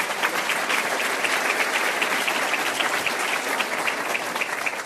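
Steady, sustained applause from an audience, a dense wash of many hands clapping at a constant loudness for several seconds, with no voices standing out.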